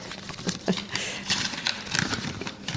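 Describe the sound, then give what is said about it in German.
Turquoise or petrol-coloured wrapping paper with a gold ribbon crinkles and rustles in irregular bursts as a gift-wrapped book, a little larger than a Pixi book, is unwrapped, with several sharper tearing crackles over about three seconds and no one speaking. “Das packe ich jetzt mal eben original und live aus.”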